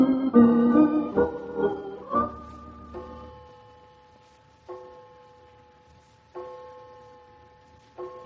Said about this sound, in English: The clock.